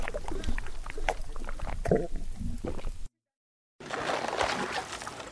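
Water sloshes and laps steadily against a small boat at sunset, with soft knocks and gurgles. The sound cuts out briefly partway through, then resumes with brighter splashing. No one speaks.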